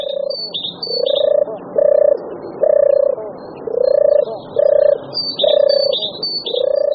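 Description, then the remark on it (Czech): A European turtle dove gives its soft, rolling purr in a steady series of short, repeated bursts, while small birds chirp faintly in the background. “Hrdlička divoká je spíše teplomilnější druh.”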